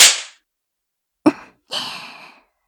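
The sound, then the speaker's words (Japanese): A single sharp slap cracks out between breathy sounds: a soft hiss of breath before it and a longer airy exhale after. No speech. “ビンタでおもらし。”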